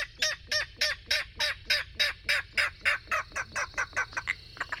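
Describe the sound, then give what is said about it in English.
A king rail gives a long, steady series of harsh, clipped kek notes, about twenty in a row, alone, quickening and softening slightly toward the end. “Reeds and bulrushes provide cover for secretive marsh birds like king rails.”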